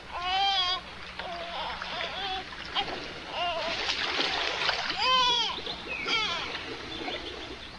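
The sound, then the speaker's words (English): Water splashes and churns steadily throughout as an ark is filled with water and sunk in the Nile, a continuous wash of sound, with several brief wavering vocal cries rising over it now and then. “Fill the ark with water. Sink it into silence.”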